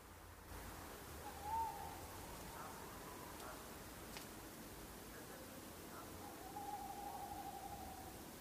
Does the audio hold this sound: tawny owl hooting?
yes